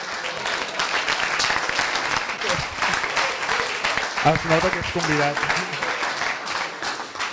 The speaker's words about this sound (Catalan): Exacte, fort aplaudiment, fort aplaudiment.